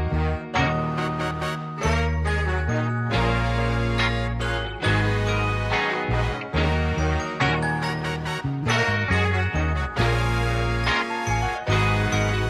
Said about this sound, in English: This is episode 18 of the Just Rated Show. Hit the intro.